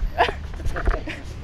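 A dog right up close to the microphone gives a few short whiny yelps and whimpers, loud and near, with quiet background rumble between the bursts.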